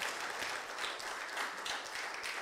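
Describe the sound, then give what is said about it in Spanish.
An audience breaks into sustained applause to the Lord in thanksgiving, a dense steady wash of many hands clapping at once, bright and even throughout with no voices standing out. “Dele un fuerte aplauso al Señor en acción de gracias.”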